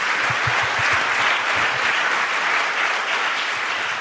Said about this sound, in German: Herzlichen Dank, ist ein Applaus wert, finde ich.